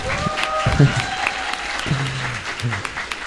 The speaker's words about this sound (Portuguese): Então eu queria, vamos reforçar essa salva de palmas, porque vale a pena.